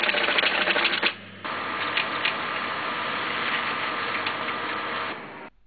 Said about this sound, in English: Just a moment, please. I'll print the bill for you.